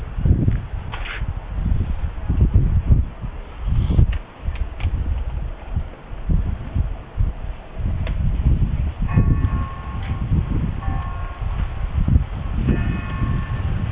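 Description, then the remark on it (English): A church bell rings, its tolling partly buried under the low rumble and clatter of a long train and station noise in downtown Winter Park. “hear the church bell in the background.”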